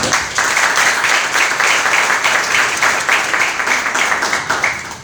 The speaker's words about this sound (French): Et vraiment, je tiens à ce que vous fassiez un maximum d'acclamations pour votre ami.